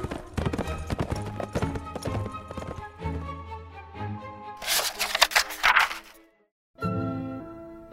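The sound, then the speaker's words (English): Horse hooves clip-clop in a steady rhythm over light orchestral music, followed by a brief rushing burst, a moment of silence, and the music returning. “The prince didn't even bother to get off his horse.”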